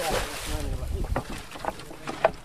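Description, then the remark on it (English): A small fishing boat out on the water as the fisherman throws his trap back in and heads for shore, with steady low rumbling, breezy wind noise across the microphone and brief splashing knocks. “Out on his fishing boat”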